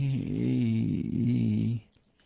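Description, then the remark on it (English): A single loud, drawn-out snore from a person, with a buzzy, rasping tone, lasting about two seconds before cutting off into near silence. No one speaks. “If you hear a snoring sound, it's just simply me.”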